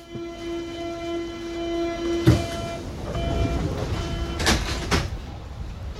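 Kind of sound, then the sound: vehicle, metro train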